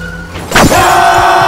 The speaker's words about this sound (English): All hell broke loose when a pickup truck sped up and slammed into us from behind. It happened so fast that I could only remember the sound of me and the boy screaming in terror.